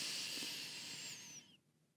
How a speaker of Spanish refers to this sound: Y vamos a tomar la primera respiración. Inhala.